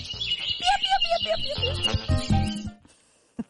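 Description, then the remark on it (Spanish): A dense chorus of small birds in a tree chirps and twitters for almost three seconds, with quick overlapping high calls and a few lower whistled notes, then falls nearly silent. “los pajaritos del arbolito.”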